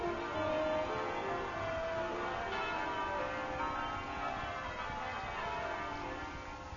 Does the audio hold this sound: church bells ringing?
yes